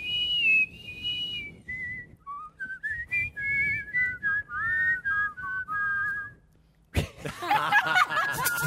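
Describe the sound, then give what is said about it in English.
Two people whistle a tune together in close harmony for several seconds, clear, before a sudden louder burst of noisy sound cuts in at the end. “They're both great whistlers.”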